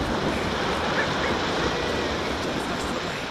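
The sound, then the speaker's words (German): A loud, continuous roar of rushing water as a huge wave surges over an island and puts the whole island under water, with a steady, dense churning and no voices. “Und da, eine Riesenwelle. Die setzt die ganze Insel unter Wasser.”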